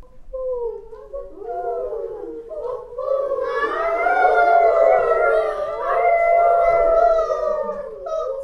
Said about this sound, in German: Es ist Mitternacht in München. Zur Geisterstunde hört man im Englischen Garten Wölfe heulen.